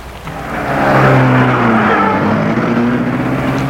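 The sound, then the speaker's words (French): A car engine revs and the car pulls away from in front of the opera, a loud rumble with a droning tone that shifts in pitch, holding steady for a few seconds with no voices. “Et ils ont vu la voiture s'éloigner.”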